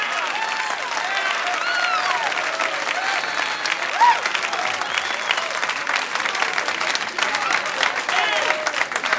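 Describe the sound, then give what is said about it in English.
Sustained applause from a large audience for comedian Kenny Youngman, dense clapping filling the whole stretch with a few whoops and cheers rising above it, steady in loudness throughout. “What a crowd.”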